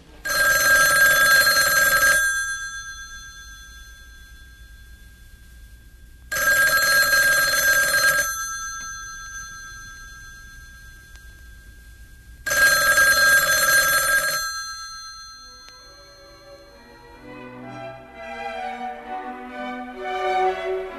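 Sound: telephone ringing repeatedly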